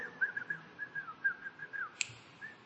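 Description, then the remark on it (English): A person whistles a steady, wavering tune, with soft rhythmic tapping or snapping underneath and a sharp click near the end. “That by just whistling, she knows she's leaving the house.”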